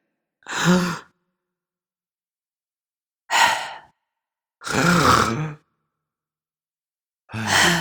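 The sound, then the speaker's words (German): A voice imitates a person's loud, heavy breathing while lying asleep in bed: four long, rasping, forceful breaths separated by pauses of silence, with no talking. “Ich habe noch nie einen Menschen laut atmen hören.”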